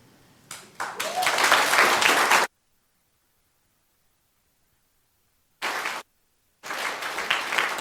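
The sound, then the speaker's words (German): An audience bursts into loud, dense applause that breaks off abruptly, leaving a long silence, then a short burst of clapping returns, pauses, and resumes strongly. “Das ist euer Applaus, da dürft ihr stehen bleiben.”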